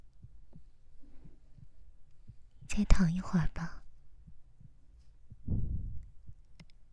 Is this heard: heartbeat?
yes